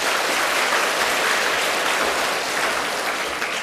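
A crowd claps steadily for several seconds, a dense, even wash of many hands with no voices on top, holding a constant loudness throughout.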